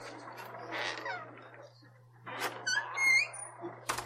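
The door of a private office in an office building creaks open with a drawn-out, high-pitched squeak that wavers and bends in pitch for about a second. A faint steady hum runs underneath, and a sharp clunk follows at the end.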